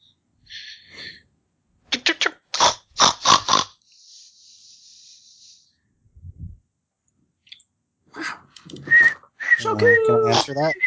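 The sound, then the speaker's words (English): A voice mimics an excited pet pig rat coming back: squeaky whistles, a run of sharp clicking bursts, then rapid high chittering and squeals, fairly loud, with short pauses between. “Your pig rat comes back chittering excitedly.”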